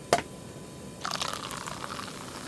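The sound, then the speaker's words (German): A brief sharp click, then champagne pours into a glass with a steady hissing fizz that carries on to the end, fairly soft and with no voices. “Yes, a glass of champagne, bitte.”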